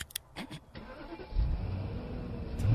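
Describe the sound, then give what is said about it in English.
A few sharp clicks, then a car engine, started with a master key, cranks and catches, settling into a loud, steady low rumble. No one speaks. “With this key, you can open and you can start any car you want.”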